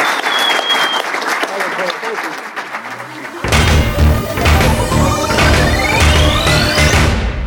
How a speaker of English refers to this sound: Our time is up. A huge round of applause for our panelists. Thank you very much for being here.